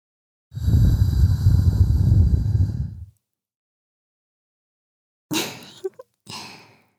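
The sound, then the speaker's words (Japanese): A long, loud, airy breath smelling of alcohol is blown into the listener's ear steadily for about two and a half seconds; after a pause come a few shorter breathy puffs with small mouth clicks. No speech. “お酒臭い吐息、耳元に吹きかけちゃいました。”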